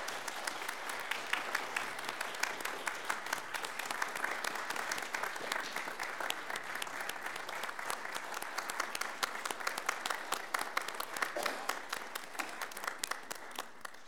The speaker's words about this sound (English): If our veterans will please stand at this time. Let's have a round of applause for our veterans.